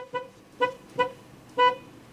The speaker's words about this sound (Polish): Czyli słyszałeś klakson?